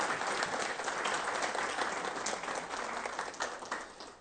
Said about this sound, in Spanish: Pido un aplauso, por favor.